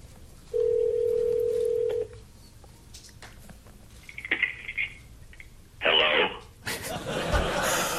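A speakerphone call placed from a Mac through an iPhone to Stephen Colbert's work number rings out with one steady electronic tone lasting about a second and a half, followed by scattered faint clicks and a swell of crowd noise.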